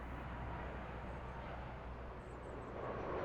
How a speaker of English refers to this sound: The plane touches down, and soon the sounds change to cars.